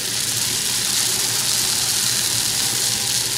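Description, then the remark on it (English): Latkes sizzle in hot canola oil, a steady, loud crackling hiss that holds evenly for a few seconds over a low, constant hum, with no one speaking. “So you can actually hear them. Let's hear them sizzling.”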